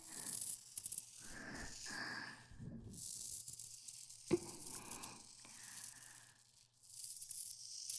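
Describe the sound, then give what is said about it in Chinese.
Continuous rustling and sliding like scales dragging over fabric as a snake's tail coils tightly around a person, swelling and easing in waves with one soft thump partway through; no one speaks. “用我的蛇尾紧紧地裹着官人。”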